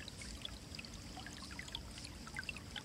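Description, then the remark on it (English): Steady flowing stream water in a forest with continuous gurgling and trickling, moderately loud, with bright splashy bubbles scattered throughout; no voices. “And resting there in the forest, gazing at the water or listening to it or sensing it.”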